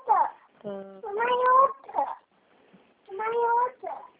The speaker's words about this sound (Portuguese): Você tem um bebê? Estou escutando ele falando.